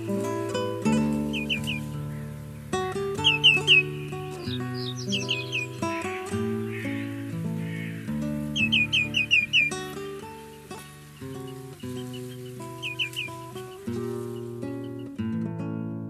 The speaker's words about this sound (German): Das war der Grünschenkel.